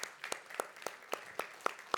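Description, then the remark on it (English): A church audience applauding people standing to be thanked for sponsoring or wrapping gifts, with sharp hand claps landing in a steady, fairly quick rhythm over a soft wash of scattered clapping. No one speaks. “Can we give those a hand clap?”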